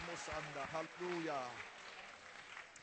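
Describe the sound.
An audience at a bilingual English-French church service claps their hands together in a steady wash of applause to the Lord, with a voice speaking over it at the start before the clapping carries on alone.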